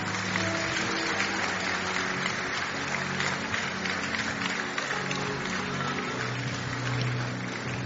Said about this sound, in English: Please keep clapping, keep clapping.